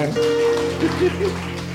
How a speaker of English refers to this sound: Amen. Amen. Clap for the Lord. Clap for the Lord.